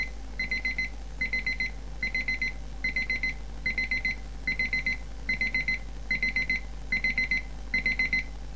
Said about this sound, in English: Now, what you will notice about this alarm, it's not very loud to start with, but it does climb. It is gradually getting louder.